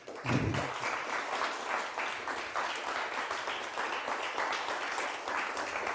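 Steady audience applause, many hands clapping in a dense, continuous wash that holds at an even level for several seconds without speech over it.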